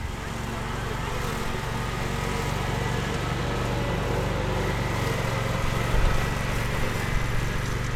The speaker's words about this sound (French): C'est pour ça que là, vous voyez, par exemple, le gyrobroyeur fait quand même pas mal de bruit. Il n'a pas eu de mauvaise réaction parce qu'il est habitué au bruit, quoi.